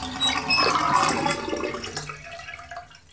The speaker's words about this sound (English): Then I shut off the water and let it run out.